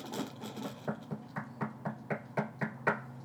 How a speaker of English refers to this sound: That's someone knocking on your door. You answer it.